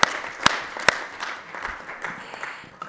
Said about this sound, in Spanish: Igual podemos terminar con una ronda de aplausos para los ponentes, si no hay más preguntas.